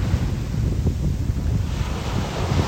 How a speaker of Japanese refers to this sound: この来る時の先っちょ白いのなんだ。おーめっちゃ、おい来るんかい、足まで来るんかい、波の来る位置一定にせんかい。おい今度来ないんかい、もっと来いよ、来ないんかい。